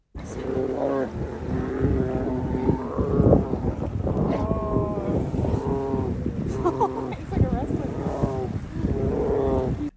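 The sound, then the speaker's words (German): Two bears fight with deep, rough growls and loud bellowing roars, harsh and continuous throughout, with overlapping snarls and some windy background noise. “Ich spiele euch mal vor, wie das klingt, wenn sich zwei Bären ins Fell kriegen.”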